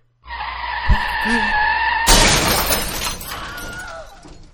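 Tires squeal in a long, high-pitched skid as a car on a motorway collides with an oncoming truck, then a loud crash bursts out with glass shattering and debris clattering before fading away; the car is totally wrecked.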